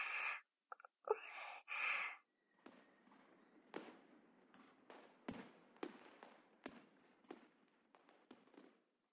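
Fireworks burst in an irregular series of muffled pops and thuds, each trailing off with a soft rumble, after a couple of louder hissing bursts at the start, just after rain has stopped.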